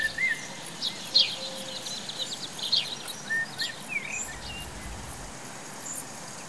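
Birdsong: several short, high chirps and trills scattered over a soft hiss of outdoor ambience, with insects faintly buzzing beneath and no one speaking.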